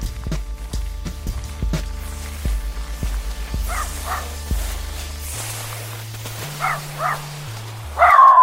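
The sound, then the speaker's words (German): A small female dog, eager to be picked up, gives a few short, high yips in two brief clusters, heard over an instrumental music bed with steady low bass notes and no talking. “Also was mir Orientierung gibt, ist beispielsweise auch meine kleine Hündin, die gerade unbedingt auf meinen Arm will.”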